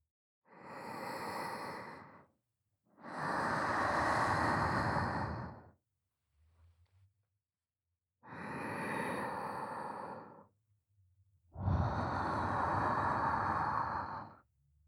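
Four slow breaths blown into the ear to warm it after lotion is applied, in long soft gusts of about two seconds each, separated by short pauses, airy with no talking.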